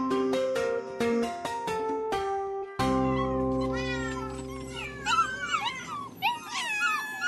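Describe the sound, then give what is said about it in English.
A few seconds of plucked, piano-like notes give way to a chorus of many high, squeaky kitten meows, overlapping and rising and falling rapidly over a low sustained musical drone. “And let's say when you flick on your computer at work, you bring up a live webcam of some adorable puppies and kitties like these to get the sympathetic endorphins flowing,”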